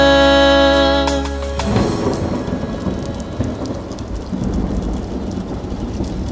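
Steady, dense rain pours down with a low rumbling undertone, following a brief sustained musical tone that cuts off after a second or so; the downpour stays loud and even throughout.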